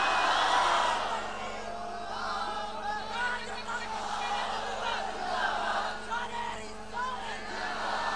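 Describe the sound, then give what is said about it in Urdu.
A large crowd chants a religious slogan together, many voices merging into a loud, sustained roar with rising and falling shouts across about eight seconds, heard from within the gathering. “یہ نعرے کا مزہ نہیں آ رہا، مجھے کہنا پڑے گا.”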